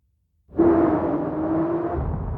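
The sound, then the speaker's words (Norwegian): After a brief silence, a rocket engine abruptly ignites into a loud, sustained roar, a steady low rumble with a humming tone running through it, continuous to the end, creaking and shaking the whole spaceship. “Motoren tennes. Det skraker og rister i hele romskipet.”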